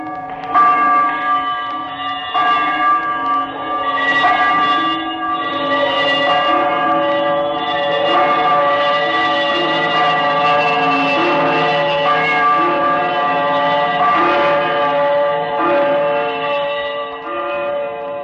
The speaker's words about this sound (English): As he turned, his glance happened to rest upon a bell, a disused bell that hung in the corner of the room. It was with great astonishment and with a strange, inexplicable dread that as he looked, he saw this bell begin to swing. Slowly at first.